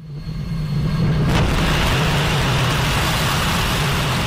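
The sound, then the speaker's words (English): Ignition and lift-off of the 28-metre Spectrum rocket of a German start-up at Andøya Island, Norway: a loud, deep roar swells within the first second, a crackling burst hits, then a steady, rumbling thunder continues without pause and with no voices. “We have engine ignition.”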